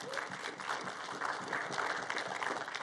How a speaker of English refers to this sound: If this is your first time here, we just want to welcome you, and we do that around here by clapping for you because we want to honor you.